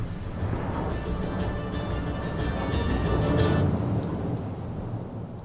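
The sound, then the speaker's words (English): Steady, heavy rain pours down while deep thunder rumbles and rolls continuously beneath it, swelling slightly louder before easing off toward the end. No voices are heard. “The very next morning, the rain began.”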